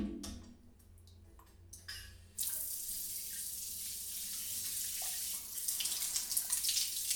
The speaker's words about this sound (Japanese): お湯ちょうど良くなったかな。シャワー熱くない？